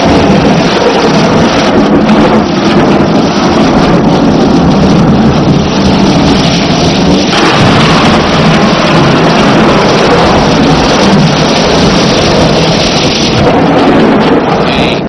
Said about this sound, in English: So we have that thunder from 2 weeks ago. Do we have that? Thank you.